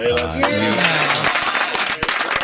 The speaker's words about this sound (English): Are they clapping? Thank you.